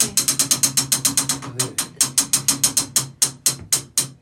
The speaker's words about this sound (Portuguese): Também tem uma posição aqui, está a ver o pé. O pé na tábua certa. Se o pé estiver aqui, não consegue, não há ninguém que consiga dar corda ao relógio.